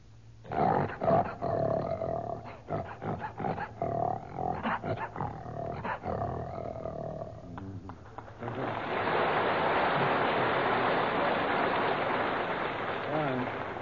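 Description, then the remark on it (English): A human voice imitates a lion's roar with a series of rough, growling bursts for several seconds, then gives way to a steady wash of hissing noise, like applause or rain. “And a lion?”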